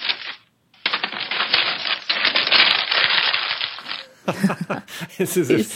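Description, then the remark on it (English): Paper is crumpled up in a dense, crackling rustle that lasts about three seconds and is then tossed away, followed by a short stretch of voices and lighter rustling. “he's crumpled it up. Never mind, and tossed it away.”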